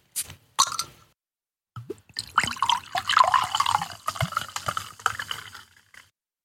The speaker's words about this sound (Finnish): Mutta kaadetaan ensin lasiin ne juomat.